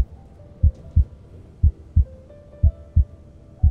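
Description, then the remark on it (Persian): A young man's slow, steady heartbeat, heard as his mother hugs him, thumps in low, muffled double beats, three lub-dub pairs evenly spaced, with a faint hum underneath and no talking. “صدای ضربان قلبش اما آهسته میزد.”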